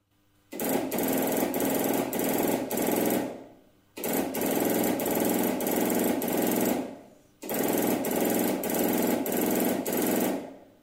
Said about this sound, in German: Wenn es dort jemand hörend empfangen hätte, die Empfänger gab es noch nicht, aber so könnte sich das dann angehört haben mit den großen Knallfunkensendern.